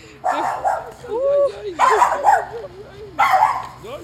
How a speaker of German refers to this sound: Hier geht eine Frau Gassi mit ihrem Hund. Das schauen wir uns mal näher an.